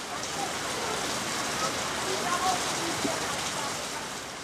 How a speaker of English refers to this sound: Seated on a terrace, shielded from a late afternoon downpour,